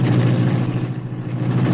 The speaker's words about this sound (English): Britt Reed pressed a button. The green car roared into life.